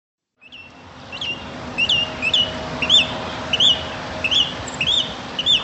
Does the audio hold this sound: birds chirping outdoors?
yes